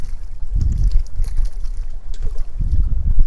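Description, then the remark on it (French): Gusty wind buffets the microphone while lake water laps and sloshes underneath a pontoon, with low rumbling surges swelling and easing in an irregular rhythm, fairly loud, no voices. “Le lac qui bouge en dessous et le ponton qui reste stable, et moi assis sur le ponton.”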